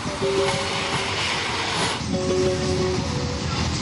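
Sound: train travelling on rails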